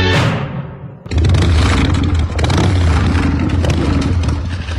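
After a brief fading sweep, the engine of Daniel Mermet's Peugeot car bursts in loud, its deep rumble surging and revving steadily for several seconds with no voices.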